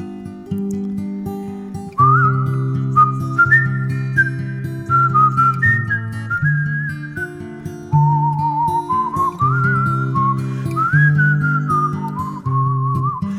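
Someone whistles a clear, wandering melody with sustained, sliding notes over a steady low musical accompaniment, fairly loud throughout.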